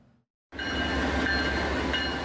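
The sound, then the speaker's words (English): After a brief quiet moment, a freight train suddenly roars past on the tracks in East Palestine, Ohio, half a mile from a train derailment site, a loud, steady rumble of rolling cars with a faint high whine running through it. “Half a mile down the tracks from where a Norfolk Southern train derailed,”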